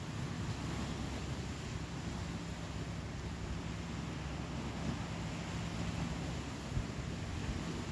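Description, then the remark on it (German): A steady, continuous rush of ocean surf washing onto the shore fills the whole stretch, a broad, even roar with a low rumble and no distinct breaks between waves; no one speaks. “Danach bleib mit dir in der Stille und genieße die Wellen, die deinen Füßen streicheln.”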